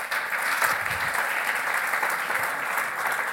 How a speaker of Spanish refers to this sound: Entonces, Eduard se nos tiene que ir. Un aplauso para Eduard, que se tiene que ir.